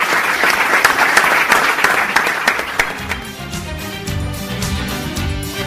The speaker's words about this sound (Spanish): Bueno, pues atendiendo a esa petición del alcalde, los miembros del Club Deportivo Laredo efectivamente se tributaban ellos mismos ese aplauso que escuchábamos.